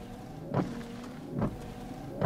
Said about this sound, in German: Und es gibt auch noch einen Scheibenwischer.